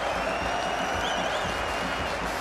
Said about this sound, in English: Whips it past mid-wicket. You can hear the England fans. They're all on their feet saluting what has been a quite superb knock from young Zach Crawley.